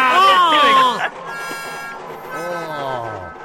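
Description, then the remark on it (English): A voice imitates a car's howling screech, heard only while the car was moving and caused by a defective center line exhaust bracket: a loud, wavering, harmonic wail for about a second, then a softer second howl that slides downward in pitch and fades. “So you had this howling noise, screeching, yep.”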